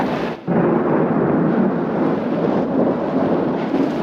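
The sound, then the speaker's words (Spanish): A deep, rolling rumble of thunder, loud and sustained with a brief dip near the start, from a night storm over a camp, with heavy howling wind and rain texture beneath. “El viento aúlla como fiera gigantesca en busca de víctimas, y los negros nubarrones presagian tormenta.”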